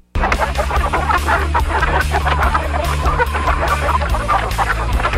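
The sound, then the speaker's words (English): A dense flock of chickens clucks loudly and continuously, overlapping calls filling the whole stretch, with a steady low droning tone running underneath. “Each chicken sound has a specific meaning, like their own language.”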